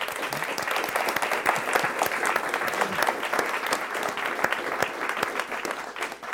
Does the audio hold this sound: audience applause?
yes